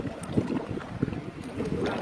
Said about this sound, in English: That's the sound the waves are making on the coast of Mauritius these days, thick with an estimated 1 ton of oil that's leaked from a Japanese cargo ship.